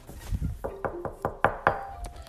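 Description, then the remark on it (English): Knocking on a tree trunk: a series of about six or seven hollow knocks in a steady rhythm, preceded by a few soft thuds, with no voices. “Well, first we have to knock on the tree and kind of wake him up and tell him that we're here.”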